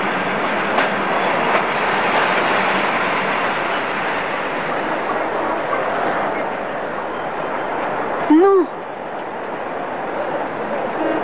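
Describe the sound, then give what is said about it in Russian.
A train rolls steadily along the rails with a continuous, loud rumbling roar, and a brief high whistle or horn blast sounds near the end, in a scene from Eldar Ryazanov's film "Station for Two" (Vokzal dlya dvoikh). “Это твой поезд? Да-да, это мой поезд.”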